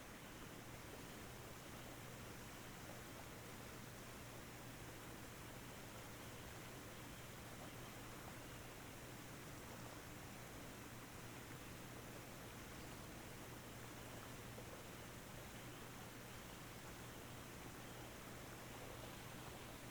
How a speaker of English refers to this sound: The sound of the waterfall is so soothing.